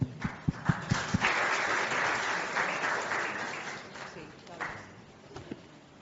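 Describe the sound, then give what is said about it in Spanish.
An audience applauds a representation of the Patronato Nacional de Ciegos with a dense, steady wash of clapping. A few sharp, distinct claps ring out at the start, and the applause thins gradually toward the end. “Una representación del Patronato Nacional de Ciegos. Aplauso.”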